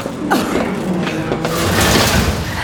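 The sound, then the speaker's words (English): A metal piece scrapes and clanks as it is wedged against the door of a Hab unit to block it, with several loud grinding knocks and a rattling, mechanical screech over a low rumble. “I'll block the door with this piece of metal.”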